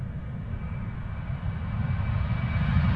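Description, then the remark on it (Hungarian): A deep, steady roar of a relatively small airplane's engines at takeoff power as it reaches rotation speed and its nose gear lifts off, heavy low rumble building slightly in loudness over a few seconds, with no talking. “Most van a VR. Elemelkedik az első fütómű. Most nagyon szépen a levegőbe emelkedett.”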